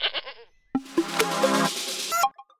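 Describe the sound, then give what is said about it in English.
A goat bleats twice: a short cry, then after a brief pause a long, loud, wavering bleat that trembles for over a second before cutting off. “Not bad for the sake of a few goats.”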